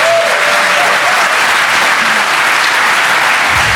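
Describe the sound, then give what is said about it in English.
A crowd at the DEF CON conference applauds new speakers loudly and steadily, a dense wash of many hands clapping that fills the whole stretch without pause, with no voices rising above it. “How about some love for the new speaker?”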